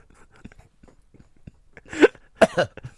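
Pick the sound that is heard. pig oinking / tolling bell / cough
cough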